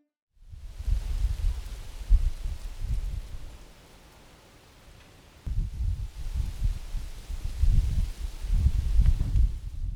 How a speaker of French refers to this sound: Ce sont de grands arbres élancés avec beaucoup de feuilles. Hier, il y avait un peu de vent. Ah, le bruit du vent dans les feuilles des arbres. On l'aime tous, non ?